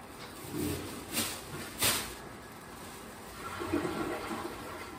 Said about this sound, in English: See, that's all it needed was to be flushed. Huh. You gotta flush, my friend. Even a couple times if you have to.